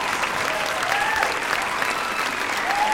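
Sustained applause from a crowd as a performer walks onto a stage, a dense, steady wash of many hands clapping at once with a few faint whistles rising above it.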